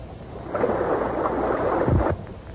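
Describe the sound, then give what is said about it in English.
A sudden surge of loud rushing water roars in for about a second and a half, with a deep low thump near the end before it cuts off abruptly. No voices are heard. “I know I heard rushing water.”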